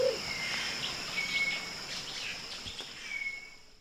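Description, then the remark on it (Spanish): A motmot's braying, donkey-like song comes in short, thin calls over a steady outdoor hum of insects, fairly faint, in mid-March, with no one speaking. “he visto los momotos por todo el invierno en esta área, solo empecé a escuchar sus cantos de burro hace unos días, ya que estamos a mediados de marzo.”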